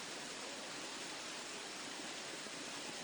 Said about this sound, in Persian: زیبایی که به نظر من داره یکی از نظر سرسبزی و درختاشه و رودخانه که اینجا در کنار باغات و درخت‌ها جاری هستش و جاذبه اصلیش هم که آبشاری که اینجا وجود داره.